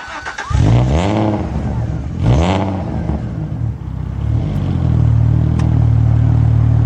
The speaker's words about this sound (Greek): Χαρακτηριστικός ο ήχος του. Έτσι, αν ακούς αυτό τον V6 να βρυχάτε, ξέρεις ότι μιλάς για Αλφα Ρωμαίο.